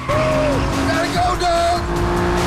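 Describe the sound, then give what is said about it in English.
A race car engine roars loudly and steadily, its pitch climbing as it accelerates hard and surges forward with blue flames shimmering from the exhaust, with a brief high tire squeal layered over the revving. “Blue flames shimmer from the exhaust as the car surges forward.”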